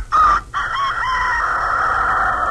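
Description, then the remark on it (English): A man's voice imitates a rooster crowing: one loud, drawn-out cock-a-doodle-doo with a short opening burst, then a long strained note that holds steady to the end, unaccompanied. “Well, that was a rooster. That's like a rooster, folks.”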